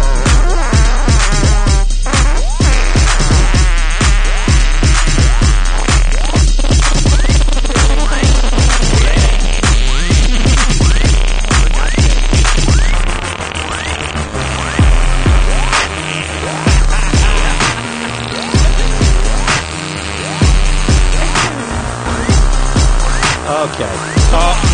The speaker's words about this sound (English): All right, we hear it. We get it. We get it. It's a long fart. We get it. Yeah, I can hear it.